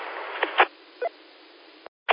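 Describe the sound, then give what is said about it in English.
A short coughing spell from a person choking up: several quick, muffled bursts spaced unevenly over two seconds, heard alone against a low background hiss with a brief dropout near the end. “Coughing spell there.”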